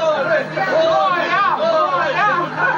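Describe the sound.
A crowd of fans chants a swimmer's name, many voices blending into a loud, steady roar with rising and falling calls repeating throughout.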